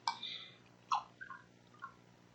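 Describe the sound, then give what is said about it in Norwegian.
Someone takes a quiet sip of water: a soft wet slurp followed by a few small gulping, swallowing sounds, with no talking. “Det var en fantastisk bevertning her med vann og greie.”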